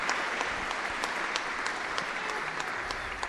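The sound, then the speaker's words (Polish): A crowd applauds steadily, many hands clapping in a dense, even patter at a moderate volume for a few seconds with no voices above it, applause for Saint Joseph following a prayer to him. “Brawo dla Józefa.”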